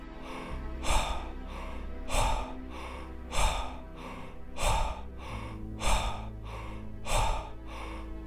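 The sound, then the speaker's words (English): Quick, forceful double-speed power breaths, belly and chest out, repeat in a steady rhythm, about seven sharp inhale-exhale bursts in a row, loud over a low, sustained musical drone. “Double speed.”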